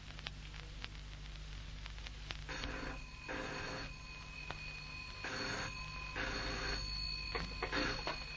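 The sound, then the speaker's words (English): A telephone bell rings in repeated short bursts, starting a few seconds in, over a steady low hum and hiss from an old, somewhat muffled recording. No one speaks. “Oh, yes, ask Miss Bergner to come to the phone, would you?”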